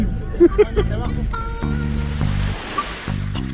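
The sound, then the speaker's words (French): Steady rumbling ambience on board a ferry carrying a football team from Lorient to the island of Groix in Morbihan, with a low engine drone and rushing water and wind, plus faint muffled voices and brief tonal hums drifting through. “L'histoire du match de football que nous vous racontons aujourd'hui commence sur le bateau qui conduit l'équipe des Turcs de Lorient vers l'île de Groix dans le Morbihan, où elle affrontera celle des Groisillons, l'US Groix.”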